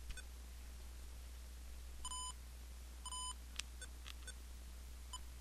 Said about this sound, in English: Now, we're going to play the other message that I recorded before that, and the way we do that is by pressing the left arrow. You will notice the Olympus will beep to indicate that we have gone left.